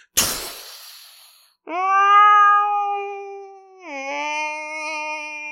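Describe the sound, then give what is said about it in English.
A sharp, noisy burst opens, then two long, wailing calls from whales swimming alongside Navy-trained whales in the mid-Atlantic follow: steady, rich harmonic tones, the second starting with a downward pitch slide before holding steady. No talking. “Those are all the whales swimming alongside Navy-trained whales.”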